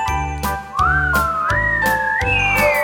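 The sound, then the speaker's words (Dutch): A sustained whistle imitating strongly blowing wind in a song slides upward and wavers like gusting wind, riding over a steady musical backing with regular jingling percussion hits. “Hij waaide heel hard, en de wind die maakte een geluid, het leek wel op een fluit.”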